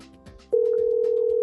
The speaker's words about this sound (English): This is not a real ring. It's just there. It's not dead air. It's because the phone's ringing. It's a comfort ring. That's soothing. That's the phone ring.